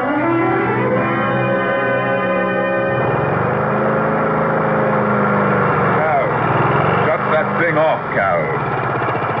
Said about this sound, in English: Yeah, just mowing the lawn, Mr. Hardy. Gets real shaggy.